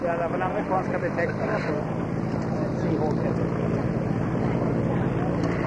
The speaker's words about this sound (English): The Caldros vintage contribution to our program this afternoon. The Hawker Seahawk. I understand he's going to go straight into his display.